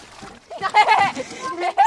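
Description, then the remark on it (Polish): Water splashes and sloshes as a heavy boat with water inside it is pushed back into the water, with people talking over the noise. “Poczekaj, bo my musimy z powrotem do wody wjechać, bo nam zjedzie.”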